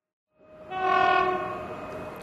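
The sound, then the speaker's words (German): A train horn sounds a sustained, harmonically rich blast over low rumbling rail noise, swelling in quickly and holding steady, loud with no voices present. “Und als der Vater im Jänner 1940 den Koffer im Zug nach Österreich verstaut hatte und die Mutter vom Zugfenster aus die winkenden Menschen am Bozner Bahnhof sah”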